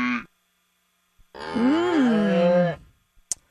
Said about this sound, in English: But I can't figure out why a week ago we needed cow sound effects.